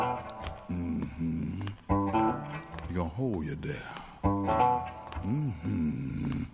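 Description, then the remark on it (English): A man's voice makes bubbly, gurgling noises imitating bubbles coming up through water, in rising-and-falling warbles mixed with sung words over a steady guitar accompaniment. “Yeah, the bubbles coming up.”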